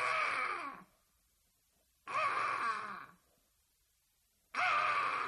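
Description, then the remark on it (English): A person imitates a crow, letting out three loud, harsh, raspy caws spaced by a couple of seconds of silence, each drawn out for most of a second. “So every morning, this fucking crow is outside my window just going.”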